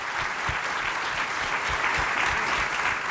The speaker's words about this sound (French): On peut les applaudir